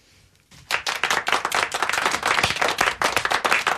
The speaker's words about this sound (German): Da wird geklatscht im Studio.